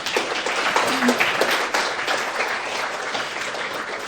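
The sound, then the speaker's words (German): Audience applause, a dense wash of many hands clapping steadily at a fairly loud level, holding for about four seconds with faint voices mixed in. “Nochmal einen Applaus für euch.”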